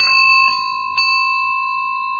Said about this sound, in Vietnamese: Vậy thì tiếng chuông người ta đánh cái gì nè?